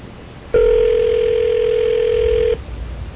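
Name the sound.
telephone call ringing through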